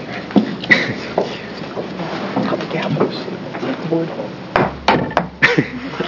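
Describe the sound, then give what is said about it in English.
A handful of sharp, hard knocks like a hammer striking wood during a committee hearing, spaced irregularly and loudest near the end, over a low murmur of room noise and indistinct voices. “You want to hit this thing with the hammer?”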